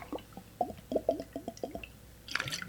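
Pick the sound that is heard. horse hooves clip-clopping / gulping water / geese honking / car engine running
gulping water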